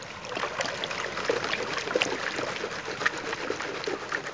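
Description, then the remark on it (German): Steady rush of flowing river water with sloshing and swishing as a gold pan is repeatedly dipped, lifted and shaken while gold panning, letting the current carry away stone and sand, with faint gritty clicks of gravel mixed in. No one speaks. “Ich tauche die Goldpfanne immer wieder ein, lüpfe sie auf, schüttle sie und lasse zu, dass Stein und Sand von der Flussströmung weggetragen werden.”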